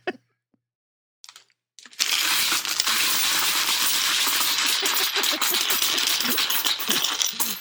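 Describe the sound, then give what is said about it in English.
A jar of coins is poured out onto a desk: after a few faint clinks, a loud, dense metallic clattering cascade runs continuously for several seconds, with no talking. “So I started by dumping a jar of coins on my desk.”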